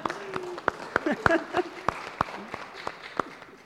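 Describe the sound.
A church audience applauds during a service, with fairly sparse, distinct claps at a steady, moderate pace rather than a dense roar, while a few voices murmur underneath.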